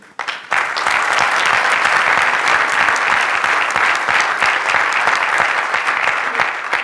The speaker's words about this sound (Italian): Un applauso. Sono meravigliosi, come va anche un applauso a tutti quelli che hanno contribuito a questi successi, per cui tutti i ragazzi di Ducati Corse